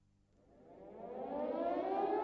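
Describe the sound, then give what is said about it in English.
An air raid siren at Peenemünde, late in the evening of 17 August 1943, winds up from a low growl into a rising, sustained wail, growing steadily louder with no voices present. “Late in the evening, on the 17th of August, 1943, the air raid sirens at Peenemünde began to sound.”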